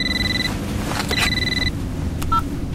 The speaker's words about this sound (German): Als ich die Hälfte der Strecke mit meinem Bentley hinter mir hatte, meldete sich plötzlich mein Handy.